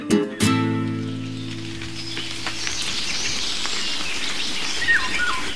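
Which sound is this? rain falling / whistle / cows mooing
rain falling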